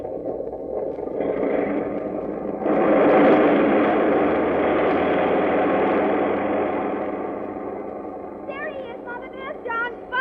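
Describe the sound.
A steady, heavy roar of airplane engines as a plane takes off builds and swells louder partway through, holding for several seconds before easing slightly as a voice begins calling out near the end.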